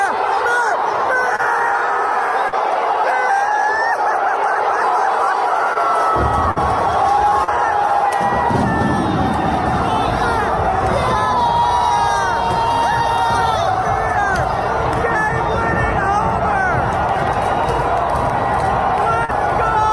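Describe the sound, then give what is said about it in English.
A large ballpark crowd on opening day chants "Beer" and cheers loudly and continuously, many voices blending into a dense roar that swells fuller partway through, with scattered individual shouts rising above it. “Crowd starts cheering Beer.”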